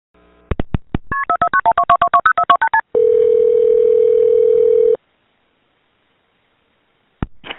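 A resident's phone call to 911 in Brunswick, Georgia, about a woman being attacked by a dog: a few clicks, then a quick run of about a dozen beeping keypad tones as the number is dialed, followed by a steady two-second ringing tone, silence, and a final click.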